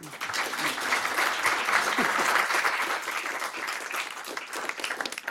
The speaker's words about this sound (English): Thank you. I didn't even anticipate applause just before I started.